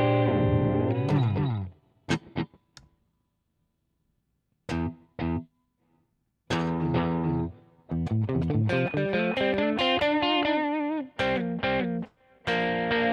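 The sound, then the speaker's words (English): An electric guitar plays notes and short phrases through a delay effect in bounce mode, each note trailing repeating echoes that ping-pong between the two stereo channels, with brief pauses between bursts of playing. Clear and fairly loud. “And then we've got this bounce mode that... This is cool. You an extra echo here.”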